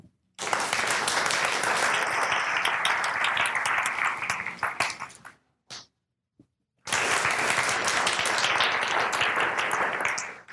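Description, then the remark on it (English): An audience in a coherence experiment claps out their own unique rhythms in a dense, uncoordinated patter, stops abruptly into near silence with a couple of stray claps when the leader lowers a hand, then bursts back into the same loud, scattered clapping. “When I raise my hand, in just a moment, I'll invite you to clap out your own unique rhythm, whatever you feel like doing.”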